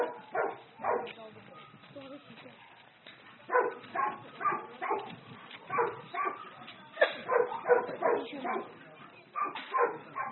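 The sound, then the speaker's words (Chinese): Several dogs, including golden retrievers and beagles, bark loudly and repeatedly in a kennel, with overlapping sharp yips and whimpers forming a near-continuous, chaotic chorus throughout. “这是黄金猎犬，米格鲁，看到很多人嫌弃，他们嫌他们有时候太小太大只了，他有时候长这么大家里关不下了。”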